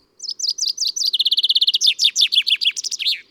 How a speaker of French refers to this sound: Le pinson.